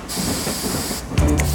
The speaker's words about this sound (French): Les deux autres cafards apparaissent à la même fenêtre et sifflent le départ. Le train s'ébranle et commence à rouler.